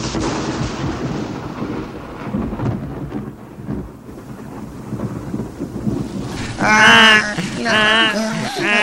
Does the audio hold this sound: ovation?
no